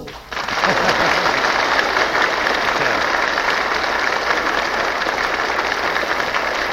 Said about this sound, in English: Well, we'll give you the winner, according to our audience applause meter, in just a moment.